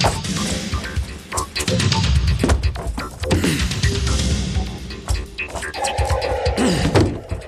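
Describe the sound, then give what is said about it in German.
A heavy solid oak door is smashed open: loud, jagged cracks and splintering thuds pile up over several seconds, with debris clattering throughout and no voices. “Da müssen wir reinhören, das Geräusch der zerberstenden Tür aus massiver Eiche.”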